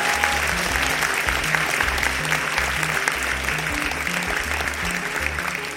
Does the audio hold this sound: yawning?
no